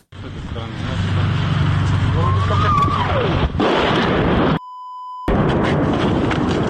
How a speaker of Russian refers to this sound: Это журналисты агентства «Франс Пресс». Вчера днем они попали под обстрел Херсона российской армии.